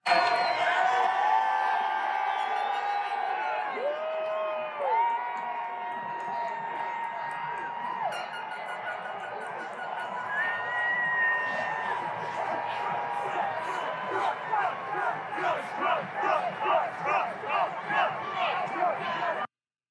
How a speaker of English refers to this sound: I mean, they're all yelling Trump. They're screaming.